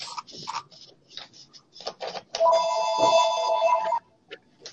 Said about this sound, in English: Is the phone ringing in, Cherie? It's ringing here.